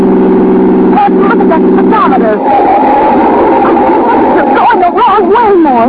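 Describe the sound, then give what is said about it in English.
A car engine drones steadily at speed beyond the city limits, a loud continuous hum that fills the whole clip, with voices talking over it in the second half. “stop this car”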